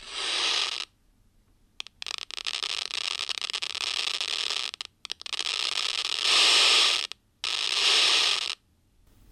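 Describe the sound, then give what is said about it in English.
Seizure-like activity of cultured neurons in electrode array culture dishes, recorded and played through a loudspeaker: sparse crackling clicks that swell into several loud bursts of harsh, hissing static (the seizure part), separated by brief near-silent gaps, with no voices. “And the burst of static, that's the seizure part?”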